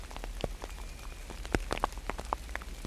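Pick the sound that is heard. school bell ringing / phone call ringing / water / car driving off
water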